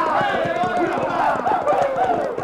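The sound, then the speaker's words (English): Galloping horses' hooves pound in a fast, steady rhythm, loud, blended into a dense, busy wash of noise with indistinct voices underneath. “Try to spook the horses and scatter the wagons.”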